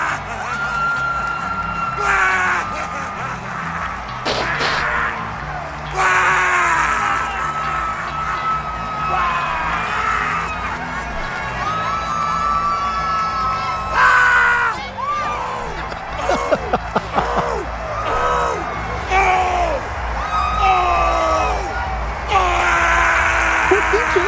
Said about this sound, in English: A clip of Michael Irvin just yelling for 30 seconds. That's just Michael Irvin now.